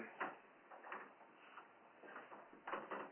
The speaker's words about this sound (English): Oh, he shut the door. Is that a good thing? Yeah, that's a good thing, I suppose.